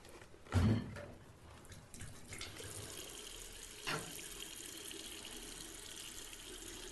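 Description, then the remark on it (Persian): Tap water runs steadily into a kettle, being filled to put on the gas stove to boil water for tea, a continuous rushing splash after a sharp clunk at the start, with a brief knock partway through; no one speaks. “بذار کتری رو بذارم روی گاز و بیام، بعد تا یکم صحبت بکنیم. آب جوش میاد و چایم آماده میشه.”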